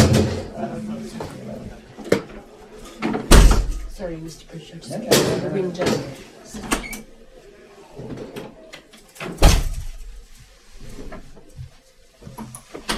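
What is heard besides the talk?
window being shut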